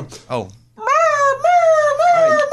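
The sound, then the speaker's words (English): A person imitates a whimpering puppy: a couple of short breathy yips, then long, high-pitched, wavering whines that dip and rise, fairly loud with no talking. “Lunches is all puppies with different temperaments.”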